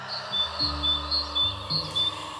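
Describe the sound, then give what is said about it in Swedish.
Birds chirp in a steady series of short, high tweets, roughly two per second, over a low hum and faint background hiss; no one is talking. “började Friedrich Jürgensson, dokumentärfilmare och forskare i det paranormala, spela in fågelsång”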